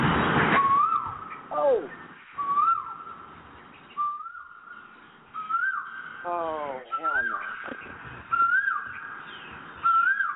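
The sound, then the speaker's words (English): Bird calls in Guadalupe Horn ring out loud: about half a dozen rising whistled notes, some followed by harsh, sweeping, rattly squeals, repeating at irregular intervals with no one talking. “I'm not hearing any bird sounds here.”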